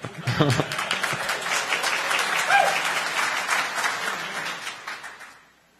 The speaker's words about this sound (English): Well, it's very encouraging. Applause already.